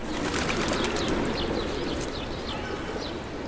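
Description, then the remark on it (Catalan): A flock of birds flutters overhead, wings beating in a dense, continuous rustle with faint cooing, fairly loud, no voices. “L'Ivan alça el cap per seguir el vol dels ocells.”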